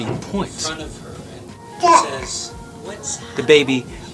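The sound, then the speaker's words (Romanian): A baby fusses and babbles in distress after its mother turns away and becomes unresponsive, trying to get her attention, letting out short, whiny, rising cries in a few separate bursts, with the loudest outbursts near the middle and end. “Aici începe panica bebelușului. Încearcă să îi atragă atenția, nu reușește și evident că începe drama.”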